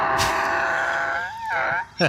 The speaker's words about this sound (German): Das letzte Wort haben niemals wir, das hat immer ein Tier. Heute der afrikanische Esel.